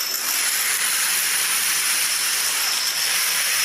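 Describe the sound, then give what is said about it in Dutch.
A long run of domino tiles toppling in the programme Domino Challenge 2022, blurring into a dense, steady, hissing clatter that holds at an even loudness throughout, with no voices. “Nou, dat zijn dus domino-steentjes die vallen.”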